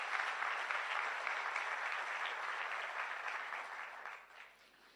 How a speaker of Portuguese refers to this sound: Quantos podem aplaudir o Senhor Jesus Cristo? Amém?